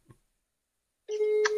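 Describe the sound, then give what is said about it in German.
A brief faint click, a second of silence, then a steady electronic telephone beep starts abruptly: one sustained mid-pitched tone with buzzy overtones, holding loud to the end. “Also ich höre zumindest ein Piepen, das funktioniert.”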